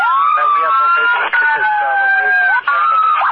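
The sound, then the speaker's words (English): A wailing emergency siren comes through a tinny, band-limited radio channel (Denver TAC 37), its pitch sweeping steadily up and down and loud for the whole stretch, with a muffled voice buried underneath. “Denver TAC 37, I could not hear you over your sirens.”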